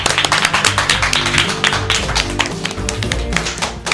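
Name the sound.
audience applause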